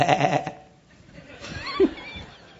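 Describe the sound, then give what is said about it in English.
A person imitates a sheep's bleat, a loud, wavering voiced cry in the first half second, followed by quieter murmuring and a brief higher-pitched warble. “Just a little sheep.”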